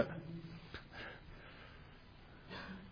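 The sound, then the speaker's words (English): A couple of quick, breathy coughs forced out on purpose, fairly soft, followed by a quieter exhale-like burst after a pause, with low murmuring in the background. “I'm just going to cough in sympathy for you, even though I don't need to.”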